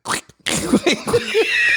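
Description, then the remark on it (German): A short burst of noise, then a string of squeaky, sputtering blurts rising and falling in pitch, loud, like a voice imitating a fart. “Und dann versuchst du mit irgendwas, was dir gerade in den Händen liegt, dieses Geräusch nachzumachen. Also zum Beispiel so mit so zwei Tonschuhen aneinander reiben, so, die sich natürlich komplett anders anhören und so.”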